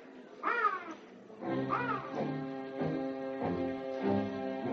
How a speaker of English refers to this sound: Seems like that crow knows just when to perch in that tree and start cawing. Listen to him.